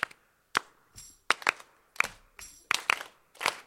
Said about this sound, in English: Sweet. Nice double clap.